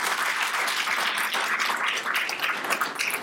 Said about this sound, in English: So without further ado, let's give them a welcome and a round of applause.